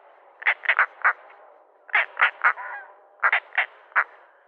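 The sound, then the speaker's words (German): A bird gives repeated harsh, croaking calls in three quick bursts of three to four notes each, loud, with a faint background hiss between bursts. “Ich hätte nicht gewusst, was das für ein Vogel ist, wenn du mir den aus dem Kontext heraus vorgespielt hättest.”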